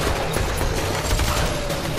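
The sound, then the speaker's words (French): A loud gunfire fusillade sound effect, many rapid overlapping shots crackling continuously for about two seconds, with a dense, harsh texture and no voices. “J'ai dû monter 800 poursuites en voiture et 500 fusillades.”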